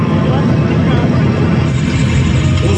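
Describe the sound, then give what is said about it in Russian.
A sci-fi faster-than-light spaceship engine starts up in a children's New Year show, a loud, steady wall of deep rumble and broad hiss that holds at full strength for the whole few seconds without pausing. “Сверхсветовой двигатель ключом.”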